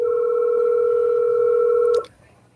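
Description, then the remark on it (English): A steady electronic telephone ringing tone from a test call to a hotline phone, heard as if over the line, holds evenly for about two seconds and then cuts off abruptly with a soft click. No one speaks. “I hear it ringing.”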